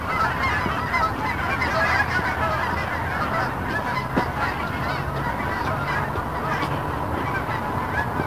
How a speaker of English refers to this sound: Holy geese. I don't know if you can hear it or not, but it's lovely. Gorgeous, I love that sound.